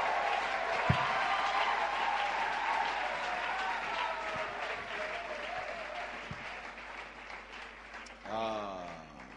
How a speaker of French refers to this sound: Est-ce qu'avec votre permission, pouvons-nous encore donner une bonne offrande d'acclamation à l'Éternel?